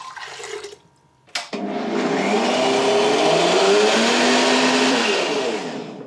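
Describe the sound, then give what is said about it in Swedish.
After a brief click, a blender roars to life and runs loudly for several seconds, its motor whine shifting in pitch as it churns a big bunch of mint with lime juice and water into a green juice, then begins to wind down. No one speaks. “Trycker ner all mynta i mixen och häller på limejuicen.”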